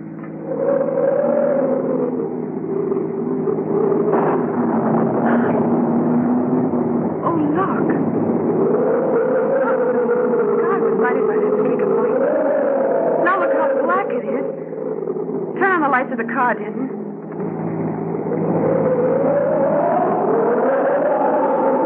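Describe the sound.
A car engine roars steadily at speed, its pitch rising and falling as it drives hard along hill roads in strong wind before a storm, loud throughout, with voices talking over it.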